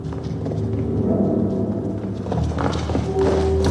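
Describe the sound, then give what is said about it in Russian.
Distant gunfire and exploding artillery shells rumble in a deep, continuous low roar near Zagreb, Croatia, on 7 October 1991, as Serbian forces approach the capital during the war, with muffled thuds rolling in from far away like thunder, and no voices present. “Звуки далекой стрельбы, разрывающихся снарядов, глубокий рокот затихает, как рычание разъяренного зверя.”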